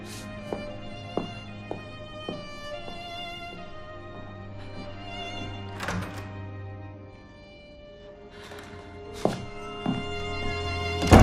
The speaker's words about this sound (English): She runs to the doors as they close and holds her hands out in front of the frosted glass windows.